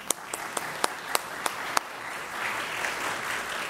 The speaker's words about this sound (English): Will everyone whose heart that music spoke to clap your hands?